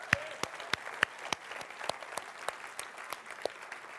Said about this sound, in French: Oui, on peut applaudir.